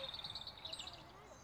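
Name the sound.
birds calling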